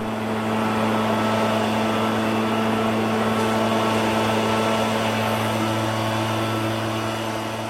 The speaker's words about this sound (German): Heute ersetzt der Laubbläser die vielen Kinder, Onkel und Tanten und Nachbarn.